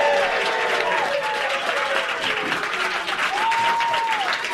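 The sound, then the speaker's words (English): A studio audience at WAMU 88.5's Black Box in Washington, during the Politics Hour radio show, bursts into loud, sustained applause, dense clapping mixed with whoops and raised shouts, a few high cheering voices rising above the steady roar throughout. “Can you shout, applause, do something?”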